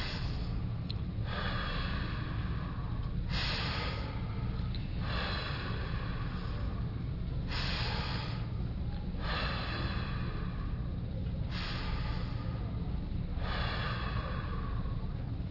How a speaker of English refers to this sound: If you get dizzy in breathing, well then don't breathe so hard, but breathe as much as you can.